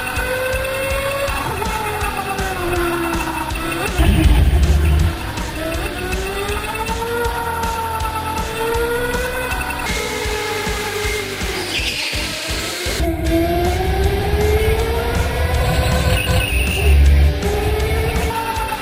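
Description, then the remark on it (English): Several electric go-karts whine around a track, their high motor pitch rising and falling as they speed up and slow down, with occasional tire scrubbing and rumbling, steady throughout. “Yeah, I think my Prius probably is very similar to these go-karts.”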